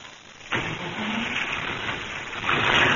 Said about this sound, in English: There she goes. Ain't that engine tuned up pretty, huh? Maybe it is, but it ain't playing anything I ever heard before. Oh, what I mean, kid, it's hitting on all cylinders.